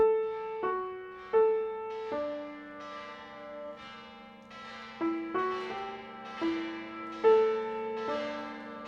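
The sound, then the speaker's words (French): A church bell peal rings out, several bells struck in a steady overlapping sequence with long ringing tones that hang and decay between strikes, clear with no voices. “Une cloche, une prostituée. Elle hurle ce qu'on veut.”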